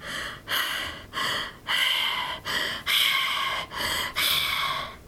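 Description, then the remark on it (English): Heavy, raspy panting through an open mouth by a mouth breather: about eight loud breaths in a steady rhythm, each a rough, airy rush in and out with no talking. “panting was kind of scary”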